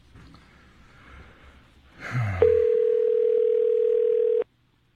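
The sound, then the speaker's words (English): After a soft breathy snort, a loud, steady telephone dial tone hums for about two seconds as a call is being placed, then cuts off abruptly into silence. “Shall we call Paul?”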